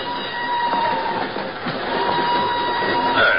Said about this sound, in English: An hour later, she's aboard a northbound train rolling out of Lisbon. I'm in the same car a few seats away.